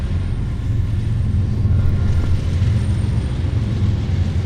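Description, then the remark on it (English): A train runs by with a steady, heavy low rumble that holds an even loudness throughout, with no voices and no distinct clacks or horn standing out. “When we get up, you'll see the train. It's a train running now.”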